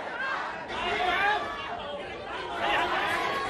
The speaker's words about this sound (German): Im wohlhabenden Viertel Taikoo etwa beschimpften hunderte Menschen wütend einen Trupp von Polizisten. Hier zu hören auf der Handy-Videoaufnahme eines Aktivisten.